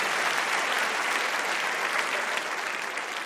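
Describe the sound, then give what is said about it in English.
A large audience claps steadily for the debaters after a debate on the motion 'the GOP must seize the center or die', a dense, sustained wash of applause that stays loud and even throughout without anyone speaking over it. “I'd like to give a round of applause to all of them.”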